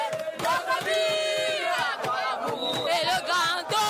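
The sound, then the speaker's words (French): A large crowd in the streets at the Poste Centrale in the city centre, Cameroon, sings the refrain of the Cameroonian national anthem loudly together, many voices blending into a fervent, wavering chorus with shouts mixed in, sustained and dense throughout. “Le refrain de l'hymne national du Cameroun est entonné avec hystérie.”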